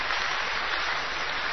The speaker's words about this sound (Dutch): Een hartelijk applaus, jongens, voor ….